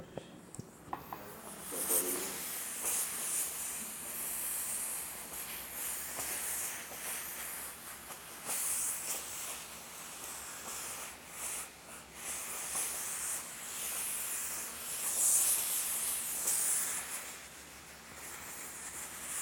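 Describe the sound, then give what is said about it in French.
A steam iron blasts steam onto a fastened-up shirt to remove its wrinkles, a steady hiss that runs almost twenty seconds, swelling and easing slightly, with no talking over it. “Tu prends ton fer et tu balances la vapeur dessus.”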